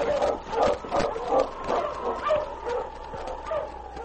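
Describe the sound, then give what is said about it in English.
A husky named King barks in a rapid, excited series of about eight yelping barks, mid-pitched and fairly loud, with faint whines between them and no talking, as he leads the team southward at a fast pace. “The great dog headed southward.”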